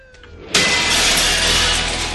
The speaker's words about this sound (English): He barely, like, I was going to say they barely introduce him other than, he bursts through the window. He smashes, actually. That's his move. In that scene, he smashes like five or six windows.